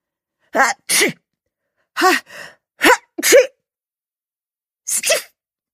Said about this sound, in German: Der Hund Fluser nieste ebenfalls.